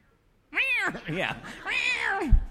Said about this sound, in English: So we give you this cat.